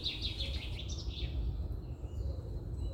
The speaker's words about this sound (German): Normalerweise werde ich von einem Wecker aufgeweckt. Aber in der Corona-Zeit wache ich ganz entspannt von Vögeln zwitschern auf.